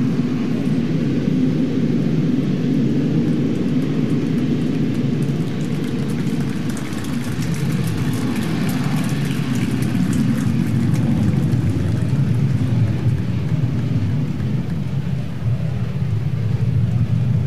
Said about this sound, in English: That's called a converter, folks. That converts kerosene into noise.